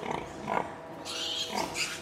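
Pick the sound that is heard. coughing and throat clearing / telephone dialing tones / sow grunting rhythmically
sow grunting rhythmically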